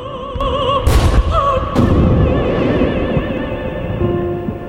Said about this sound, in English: Lightning flashes mix with explosions on a battlefield during World War I. A dead soldier lies in a muddy ditch as the explosions go off around him.